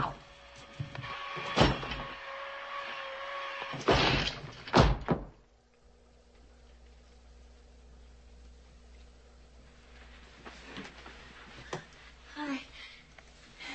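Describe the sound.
A door is forced open with several heavy bangs and a final slam in quick succession, then quieter rustling and faint voices follow.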